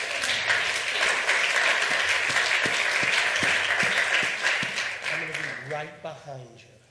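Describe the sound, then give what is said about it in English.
A crowd breaks into steady applause for a nervous student coming up to speak, a dense wash of many hands clapping that holds strong for several seconds, then thins out and fades as a voice begins speaking near the end. “And listen, she's very nervous, so y'all give her a good round of applause as she gets up.”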